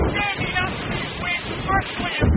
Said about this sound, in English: At the University of Maryland's wind tunnel, researchers strapped me in to experience storm-force winds. 74-mile-per-hour winds now. This would be a Category 1 storm.